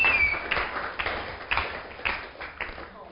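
A group claps together in a steady rhythm, roughly two claps per second, over a busy wash of crowd noise and faint voices, with a brief high tone at the start. The audience is clapping for Jesus.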